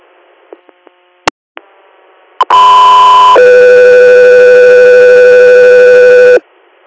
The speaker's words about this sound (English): Echo 3 Air, stand by for tones.